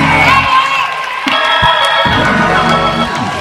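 An audience cheers and shouts praise, a loud, sustained wash of many overlapping voices with high whoops and calls rising and falling for a few seconds, no single voice standing out.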